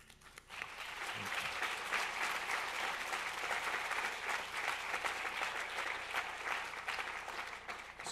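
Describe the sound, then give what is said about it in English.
Steady audience applause, a dense crackle of many hands clapping that swells up quickly and holds at a strong, even level for several seconds without any voices. “So let me ask you to please, after you clap and after tonight, to go to poorpeoplescampaign.org and sign up and join up with the movement.”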